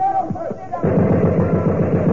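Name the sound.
burst of gunfire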